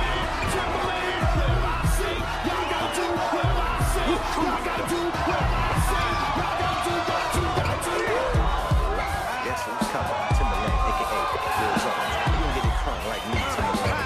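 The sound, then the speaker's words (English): A large crowd in a hall roars and cheers nonstop as two breakdancing groups compete in a battle in the film Dance Flick, a dense wall of shouting and excited voices punctuated by sharp thumps and slams, loud and steady throughout. “Two breakdancing groups compete in front of a large crowd in a hall.”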